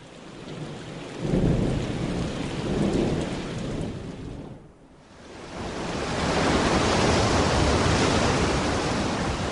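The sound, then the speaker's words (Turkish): A thunderstorm at sea with heavy rain pouring steadily, low thunder rumbling in two swells early on, a brief lull, then a loud, dense downpour roaring on. No voices. “Bu fırtına bizi fena yakaladı.”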